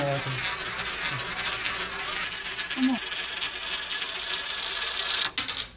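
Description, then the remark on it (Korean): A coin dropped into a gravity well funnel exhibit that demonstrates gravity spirals around with a continuous rolling, rattling whir that speeds up over several seconds, then ends in a short clatter as it drops through. Faint voices murmur underneath. “자, 동전을 넣겠습니다. 중력 우물에 대해서 이렇게 설명하는 거죠. 그냥 뚝 안 빠지고.”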